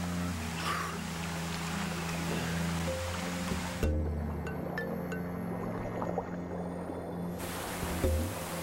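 A continuous, fairly loud roar of a waterfall at the end of a creek in a Chinese jungle, between mossy vertical rock faces, with rushing creek water, steady throughout with a deep rumbling undertone and no voices.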